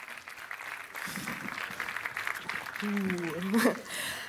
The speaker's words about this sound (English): A big applause, please, for Introduction to Particles Physics